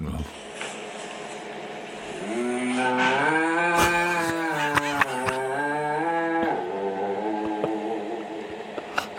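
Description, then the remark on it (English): A human voice imitates a singing cow with one long, sing-song moo that rises and wavers for several seconds, recorded at work, set against steady background noise and a few sharp clicks. “This is me recording it at work, right? See what you think of my singing cow.”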